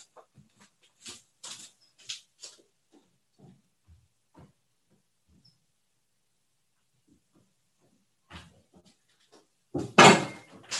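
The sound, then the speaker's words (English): A chair is lifted and set down for a movement practice, with light knocks and rustles at first, a quiet pause, then a louder scrape and clatter as it is placed. “So I'm going to grab my chair.”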